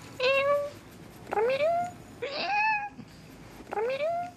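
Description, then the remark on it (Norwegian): A 20-year-old woman imitates a cat, giving four convincing, drawn-out meows with rising then falling pitch, spaced about a second apart. The calls are clear, with no talking. “Og mjøvinga hennes, den helt identisk med ekte kattemjøving, bare høyre her.”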